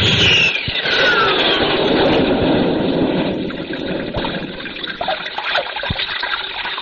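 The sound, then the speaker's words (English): Water of a babbling brook rushes and bubbles steadily, fairly loud, easing slightly toward the end. A brief descending whistle sounds at the very start, and no one speaks. “I think I'll just lie down here by the babbling brook and take a little rest.”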